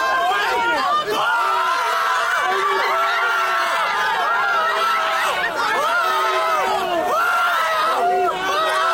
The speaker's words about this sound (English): When the verdict is announced, crowds outside the courthouse go wild. Supporters spray baby oil at each other. Observers with different opinions get in shouting matches.